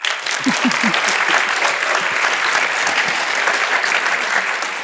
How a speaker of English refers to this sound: Now, Martin Reiche, try this with the applause again, please.